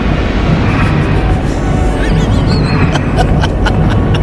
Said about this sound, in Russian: Шаги того самого каменного командора.